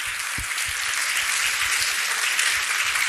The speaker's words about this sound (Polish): Wielkie brawa, bo to nasze dzisiejsze gwiazdy.